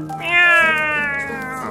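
A kitten lets out one long, drawn-out meow, loud and plaintive, sliding slowly downward in pitch before trailing off. No one speaks.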